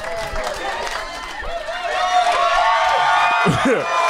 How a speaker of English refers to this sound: I took my shirt off. People yelled.